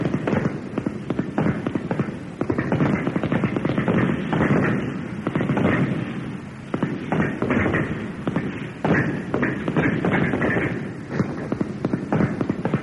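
A rapid, continuous barrage of rifle shots fired single-shot during shooting practice, many sharp cracks overlapping in an uneven rhythm, loud, sustained for the whole stretch like a group firing together on command.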